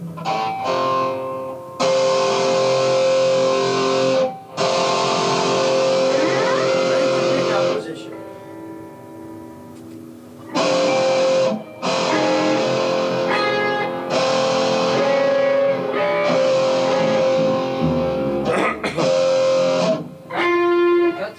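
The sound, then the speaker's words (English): A heavily distorted electric guitar amp rings out in loud, sustained bursts of thick, buzzy chords, separated by brief pauses, with dense, gritty overtones throughout. “It's a little too much distortion, though, isn't it?”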